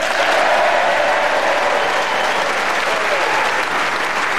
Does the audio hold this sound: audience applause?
yes